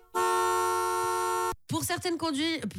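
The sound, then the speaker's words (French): A car horn blares in one loud, steady honk lasting over a second, then cuts off abruptly before someone starts talking. “Mince, non mais il y a pas de bruit de klaxon?”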